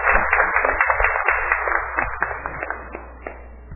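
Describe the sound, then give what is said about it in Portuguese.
An audience at a city council session breaks into steady applause for a woman's work, a dense, crackling patter of many hands clapping at once that holds strong, then gradually thins and softens toward the end. “Vamos ter uma salva de palmas para o trabalho dela.”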